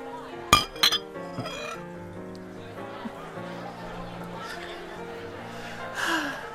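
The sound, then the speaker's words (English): Glasses of beer clink together twice in a toast in quick succession near the start, bright, followed by a sustained tonal background with some vocal sounds. “We're just drinking in it. Cheers. Cheers. Cheers.”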